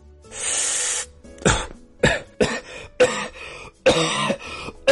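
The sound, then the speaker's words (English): A long raspy throat clearing gives way to a string of harsh, loud coughs in quick, uneven bursts, with no talking. “And man, we all know a coughing Carl.”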